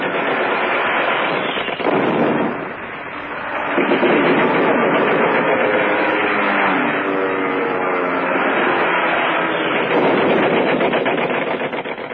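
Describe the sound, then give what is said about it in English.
Black-painted German Stuka dive bombers attack a flotilla of MTBs: an engine roars and whines, its pitch sweeping as it dives, while bursts of rapid gunfire and explosions crackle densely throughout. Loud, continuous and chaotic, with no voices. “The black-painted German Stuka dive bombers flew once over the flotilla, banked and turned. And then the first one dived just as the MTBs scattered in different directions.”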